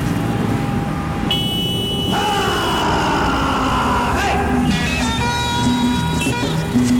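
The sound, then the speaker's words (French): Dense, continuous city traffic rumbles just steps outside the Aravalli conservation forest as engines of motorbikes and trucks drone amid pollution, with several car horns honking in bursts, one long blast early and shorter toots later. “La circulation, les motos, les camions, les klaxons et la pollution.”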